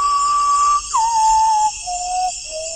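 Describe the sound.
An ornithologist whistles an imitation of an Amazonian bird song during an evening birding session under a high jungle canopy in the Amazon: a long steady pure tone, then a short swoop down into a series of slowly descending held notes, clear, with a faint insect-like hiss behind.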